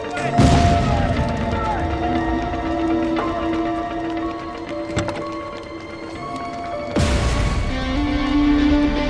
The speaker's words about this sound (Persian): انفجار تو کارخونه، دنبالم بیاید، حشره کنین، بیاید. تو کارخونه انفجار رخ داد